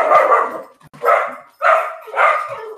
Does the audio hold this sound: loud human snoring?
no